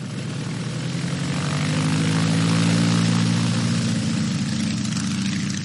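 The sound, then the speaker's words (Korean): A propeller-driven biplane engine drones steadily and loudly, its buzzing pitch swelling slightly in the middle before easing off, with no voices, during flight training at an aviation school in northern France. “날개가 위아래로 두 개가 달린 비행기를 조종하는 기술을 배웠습니다.”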